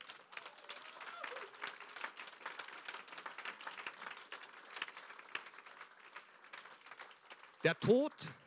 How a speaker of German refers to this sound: Und ich würde sagen, jetzt wäre eine gute Stelle, wo wir Jesus einen kräftigen Applaus geben.